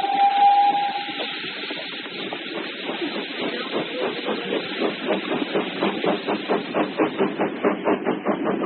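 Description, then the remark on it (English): A coal-fired steam locomotive chugs under a steady roaring hiss, driven at full speed, its rhythmic chuffs quickening as it builds speed, with a short high whistle at the start. No one speaks. “We must pack the furnace with coal. Engineer, pour on all speed.”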